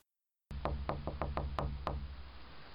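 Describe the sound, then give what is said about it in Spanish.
Seven sharp knocks on a door in a quick, slightly uneven rhythm, fairly loud, over a low steady background hum, with nobody speaking. “¿Quién toca la puerta?”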